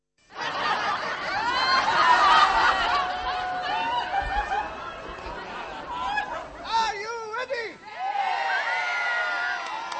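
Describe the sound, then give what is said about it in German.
An open-air street theatre audience in Prague reacts to Israeli clown Gili Keren at the Teatro Totsch festival, on the square Na Kampě at the foot of Charles Bridge in the Lesser Town: snickers, chuckles and scattered cheering, a dense wash of voices and laughter that swells and dips, with a few higher exclamations. “So klingt es, wenn Clown Gili Keren aus Israel das Publikum in seinen Bann zieht.”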